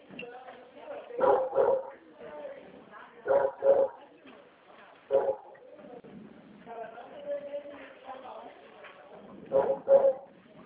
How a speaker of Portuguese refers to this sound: Cachorrinho aí tá nervoso, ó. Tá vendo alguma coisa aí? Ah, é passarinho.